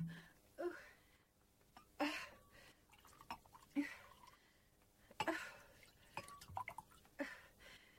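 Drinks are poured into two glasses, quiet liquid trickles and drips coming in several short bursts with faint glassy clinks, with no talking.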